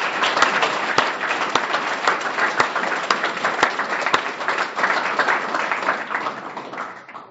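An audience breaks into steady applause, many hands clapping in a dense, overlapping patter at a constant loud level for about seven seconds before quickly tapering off.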